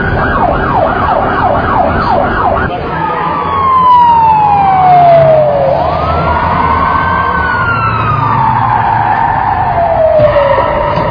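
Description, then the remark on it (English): An emergency vehicle siren blares, starting with a rapid yelping warble before switching to long, slow wailing sweeps over a low rumble of traffic. “Is the siren entirely necessary?”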